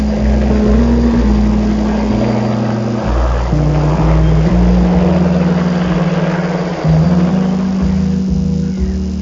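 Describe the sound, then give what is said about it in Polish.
A helicopter's engine and rotor drone loudly and steadily, a deep humming roar whose pitch shifts slightly now and then, with no voices; a helicopter landing at the airport in Toruń, one that Father Tadeusz Rydzyk intends to buy. “Na tamtejszym lotnisku wyląduje helikopter, który zamierza kupić ojciec Tadeusz Rydzyk.”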